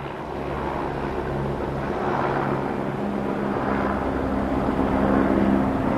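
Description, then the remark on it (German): A helicopter flying from the Vatican to Castel Gandolfo, Italy, drones steadily overhead, its engine hum and rotor noise holding a constant, fairly loud level throughout with no voices. “Knapp 3 Stunden vor dem Ende seines Pontifikates hatte er wie geplant den Vatikan verlassen und ist mit dem Hubschrauber nach Castel Gandolfo geflogen.”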